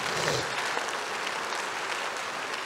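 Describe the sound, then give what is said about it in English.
An audience claps steadily during a sermon, applauding for Jesus, a dense wash of many hands applauding at once, loud and even throughout with no pauses or talk over it. “Give me one reason why you are not clapping for Jesus.”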